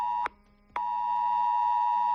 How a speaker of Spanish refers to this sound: Eran las 2:25 de la tarde del domingo cuando los móviles de la Comunidad de Madrid empezaron a emitir esa alarma ante, claro, la mirada perpleja de todos, que no sabíamos muy bien qué teníamos que hacer.